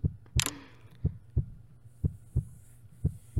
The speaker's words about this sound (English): Just listen to my heart. Yeah. That's it. It sounds nice, right? Yeah. Let your Alpha's heartbeat soothe you.